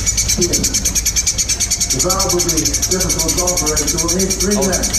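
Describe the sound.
Birds chitter in a rapid, steady stream of high-pitched chirps that fill the whole recording, with muffled background voices joining beneath them partway through.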